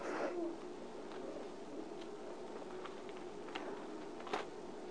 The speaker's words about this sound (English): Oh, it's good to hear the pages turning on a Tuesday night. 1 Corinthians chapter 1.